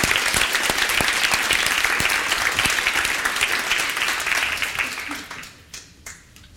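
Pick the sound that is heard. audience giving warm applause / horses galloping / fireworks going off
audience giving warm applause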